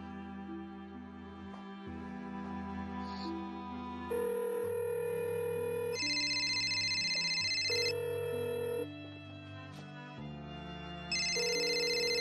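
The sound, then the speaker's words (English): Evan's phone rings: an electronic ringtone plays a bright, repeating melodic pattern for about twelve seconds, loud, with layered synth tones and a steady backing beat, no voices. “Evan, pick up. Evan's phone here.”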